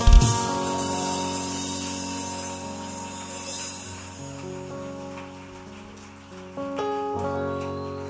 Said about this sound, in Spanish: un aplauso fuerte a ti, Jesús.